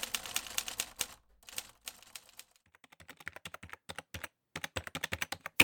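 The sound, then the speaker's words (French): Rapid clicking of computer keyboard keys in irregular bursts, with short pauses between runs of typing, fairly crisp, no voices present, as someone types up reports. “Bien sûr, avec le clavier d'un ordinateur.”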